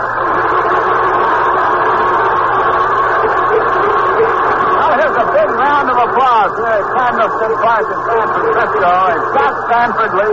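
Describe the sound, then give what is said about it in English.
A large crowd at Candlestick Park in San Francisco applauds as San Francisco Giants pitcher Scott Sanford leaves the mound during the World Series, a steady, dense roar of clapping and cheering that holds for the whole stretch, with a man's voice talking over it in the second half. “they're giving him a standing applause as he leaves the mound”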